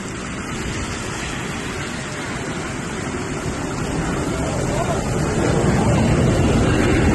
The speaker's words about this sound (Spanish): Bueno, este es un avión aproximándose en aeropuerto, pero que en el último momento ve que no es posible aterrizar y directamente pues sigue, vamos, asciende, no aterriza y se va a otro sitio. Claro, esto es en el aeropuerto de Palma de Mallorca